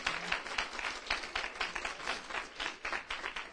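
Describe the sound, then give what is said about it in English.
An audience claps together in praise of God for the morning's word, in a sustained burst, many hands slapping in a dense, crackling wash of sound that holds steady for several seconds with no voices on top. “And let's give God a praise with a hand clap for the word on this morning.”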